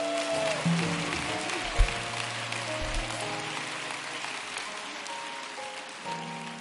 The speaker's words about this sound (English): I would be remiss if I didn't say, let's give this dynamic choir a hand clap.